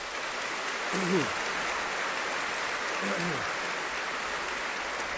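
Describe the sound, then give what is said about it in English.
Steady, dense audience applause for the evening's speakers after a dialogue event on life, the universe and God fills the whole stretch at an even loudness, with a couple of brief voices calling out over the clapping. “I've particularly enjoyed tonight's dialogue, and I think one other applause for our people tonight.”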